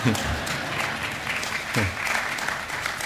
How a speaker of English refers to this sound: Now, that's the guilt clap, because they knew they should have clapped with the others.